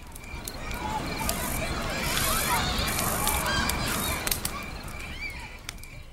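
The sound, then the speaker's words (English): Birds call repeatedly outdoors at Six Nations, just outside Toronto, Ontario, a busy overlapping mix of honks and chirps over a steady open-air rustle, continuous throughout with a few sharper calls near the end. “It's quiet, and you can hear everything from the birds to the grass and gravel.”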